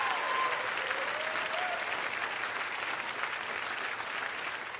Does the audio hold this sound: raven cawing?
no